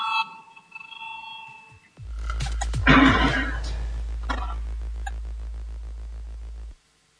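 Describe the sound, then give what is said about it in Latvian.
A loud, steady electric voting bell in a parliament rings continuously for several seconds with a harsh buzzing tone, after a short tonal chime, calling members to vote on a proposal, then cuts off abruptly. No one speaks. “Lūdzu zvanu, balsosim par 9.”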